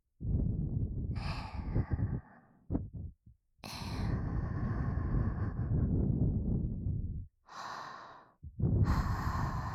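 Several long, breathy exhales follow one another, each a soft airy whoosh with a few short gaps and quick intakes between them, no words spoken.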